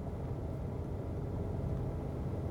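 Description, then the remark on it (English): A steady, low engine rumble inside a parked car where a person sits for a long time with the engine running, constant and unbroken, with no voices and no change in level throughout. “And even this, now I'm, you know, I'm in the car, which is not, it doesn't feel good to sit in the car for this long.”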